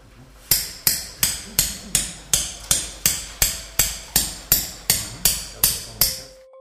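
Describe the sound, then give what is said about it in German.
A hammer drives a bone chisel to split a breastbone down the middle, with about sixteen sharp, evenly spaced blows in quick succession, each crisp, forming a steady rhythmic pounding that stops abruptly. “Das Brustbein wird mit Hammer und Knochenmeißel in der Mitte durchtrennt.”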